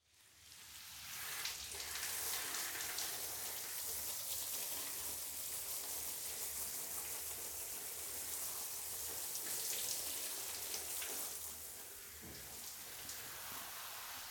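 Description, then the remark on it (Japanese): Shower water sprays steadily in a dense, hissing rush, rinsing foamed shampoo from hair, with the water set hotter than when the hair was wetted, easing slightly toward the end. No one speaks. “シャンプーがしっかりと泡立ったので、もう一度シャワーをかけますね。”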